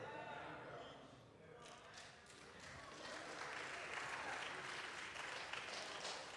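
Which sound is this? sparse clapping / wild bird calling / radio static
sparse clapping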